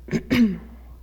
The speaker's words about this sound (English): I've had a tickle in my throat. If I cover this up and cough, is that bad? If I need to cough really bad.